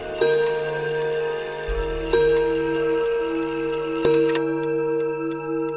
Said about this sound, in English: And then he heard the clock strike 3.